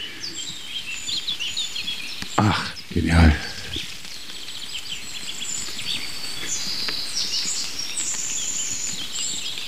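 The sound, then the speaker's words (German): Rapid, high warbling bird song runs steadily in the background throughout, fast trilling phrases at a moderate level, with a brief spoken exclamation early on, in woodland with red oak, hawthorn, larch, rowan, a conifer and tall bracken. “Es ist dieses super schnell Schmetternde im Hintergrund.”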